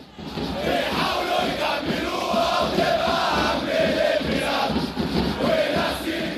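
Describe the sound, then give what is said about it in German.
Hundreds of fans of the football club Al-Ahli gathered in front of the Interior Ministry in Cairo in spring 2012 chant in unison, loud and sustained, with rhythmic swells of many voices singing together fervently throughout, no single voice standing out. “Vor dem Innenministerium haben sich hunderte Fans des Fußballclubs Al-Ahli versammelt. Sie singen gemeinsam, sie singen mit Inbrunst.”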